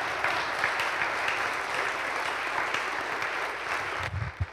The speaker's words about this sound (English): Yeah, how about a little round of applause for Pastor Andrew?